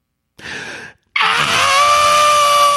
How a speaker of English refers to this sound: There's like a scream, but it's like, it's very performative. Yeah. She's a performer. She's very aware, but it's like, it doesn't feel. It's not organic. It's not organic.